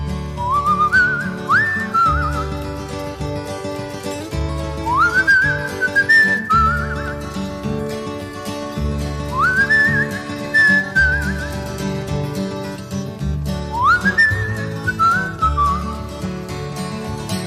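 A 1960s country song recording opens with a whistled melody, rising and sliding phrases repeated four times over a steady strummed guitar and bass accompaniment, with no singing yet.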